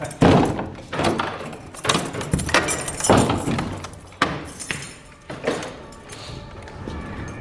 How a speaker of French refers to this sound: Là, il faut que j'ouvre la porte.